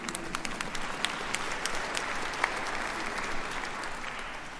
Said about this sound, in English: Yes, you can clap if you want.